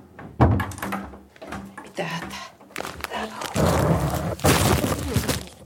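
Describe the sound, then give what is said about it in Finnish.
A stack of books with a microphone on top topples over in a mattress fort, a rapid series of heavy thuds and clattering knocks building into a louder tumbling crash, with a faint voice in the background. “Niin kuin mä sanoin, että täältä kun yksi tippuu, niin sitten tippuu kaikki. Se on tämmöinen kirjapino, jonka päällä on tämä mikrofon.”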